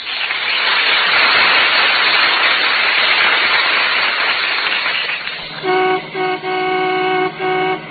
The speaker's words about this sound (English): That's the McGee family car coming down 14th Street.